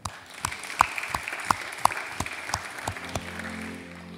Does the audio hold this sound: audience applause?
yes